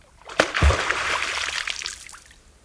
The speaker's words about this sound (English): If you startle them, you may hear the resounding splash made by their flat tail striking the surface of the water.